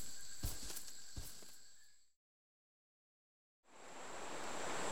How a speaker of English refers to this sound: Whoa! The water's moving really quickly. What a fantastic waterfall.